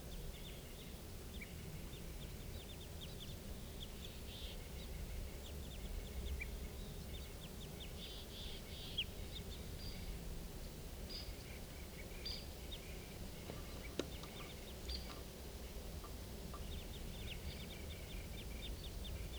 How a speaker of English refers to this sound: They're recording at 4:57. I'm pretty sure now those are crossbills up there.